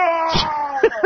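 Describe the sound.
A caller to the Don and Mike radio show imitating a movie monster: a drawn-out, wavering moan-like vocalization lasting about a second, ending in a couple of short, gruff bursts.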